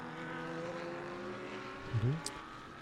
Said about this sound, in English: 43 minutes remaining. And as if by magic, we hear car noise again.